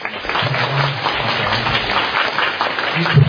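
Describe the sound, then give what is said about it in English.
A crowd applauds steadily for a few seconds to warmly welcome Venerable Ajahn Brahm at a vihara. It is a dense, even wash of many hands clapping at once, with a faint low murmur underneath. “So without further ado, let us give a round of applause and warmly welcome Venerable Ajahn Brahm.”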